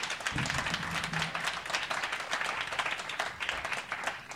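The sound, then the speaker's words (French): An audience breaks into steady applause for an absent colourist who coloured 220 copies of a character, a dense crackle of many hands clapping that holds at an even level for the whole stretch, with a brief low murmur near the start. “Donc j'aimerais bien que vous l'applaudissiez, même s'il n'est pas là, s'il vous plaît.”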